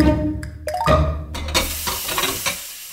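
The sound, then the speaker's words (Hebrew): Dishes clink and clatter during washing, with several sharp knocks and rattles over a steady wash of running water, the rushing noise growing fuller partway through. “בזמן שאתם שוטפים כלים, סיימתם עוד פרק בספר.”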